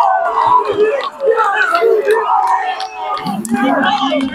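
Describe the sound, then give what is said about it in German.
A small crowd of travelling fans at an American football game erupts in loud, overlapping cheers, shouts and high screams of joy after a successful two-point conversion, sustained and excited throughout with no pause. “Die paar mitgereisten Fans sind auch außer sich vor Freude.”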